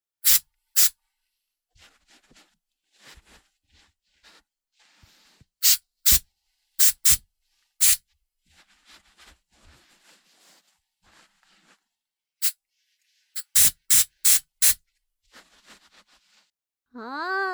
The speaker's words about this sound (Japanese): じゃあ最後にヘアスプレーでスタイリングして、バッチリイケメンにしてあげる。はーい、スプレーいくよー。